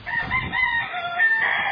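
Chickens cluck and call in overlapping, drawn-out vocalizations, steady and moderately loud, with a faint low rumble underneath and no one talking, as a storm approaches.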